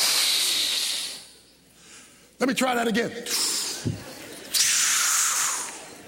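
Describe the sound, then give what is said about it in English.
A person blows hard in long, breathy bursts, imitating the Big Bad Wolf huffing and puffing at the third pig's house. A loud blast opens, a brief spoken line cuts in, then two more strong blowing gusts follow. “Big Bad Wolf took in a deep breath and huffed the puff.”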